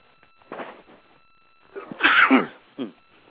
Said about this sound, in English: Excuse me there. I had to take a second to sneeze.